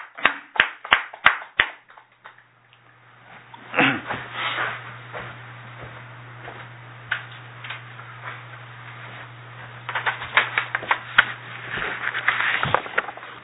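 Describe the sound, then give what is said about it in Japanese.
At a Konkokyo gathering, a group claps for a man's 50th birthday: a handful of sharp, evenly spaced claps open, followed by scattered, uneven hand clapping that swells again near the end, over a steady low hum, with no talking. “盛大な拍手でお願いします”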